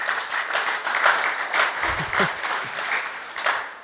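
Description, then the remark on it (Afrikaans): A crowd applauds steadily to congratulate people who became grandparents and an aunt that week, many hands clapping together in a dense, continuous patter that holds fairly loud throughout, with a brief low murmur of voices partway through. “so kom ons kan vir hulle lekker hande klap gee.”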